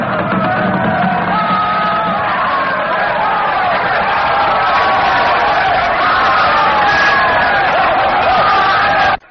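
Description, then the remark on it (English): A dense mass of Greek soldiers' voices bellows and yells continuously as hordes of troops surge through the opened main gates of Troy, a loud roaring battle shout that holds steady for about nine seconds before cutting off abruptly. “As the gates open, hordes of Greek troops surge through the ever-widening gap.”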